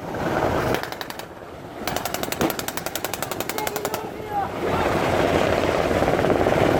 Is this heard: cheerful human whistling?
no